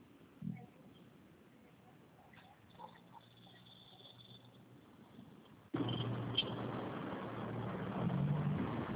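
car being parked

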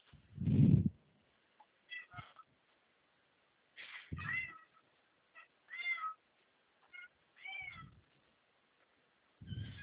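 cat meowing

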